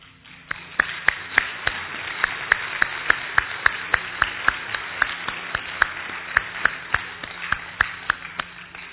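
A church audience applauds the worship team after they led morning worship, a steady wash of clapping with sharp, evenly spaced claps standing out about twice a second throughout, with no talking.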